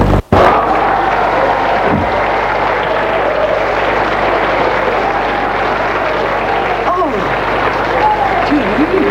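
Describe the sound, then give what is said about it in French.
Dense, steady applause from a crowd of women in a courtroom fills the whole stretch, a continuous loud patter of many hands clapping with a murmur of voices underneath. “Les femmes continuent à applaudir.”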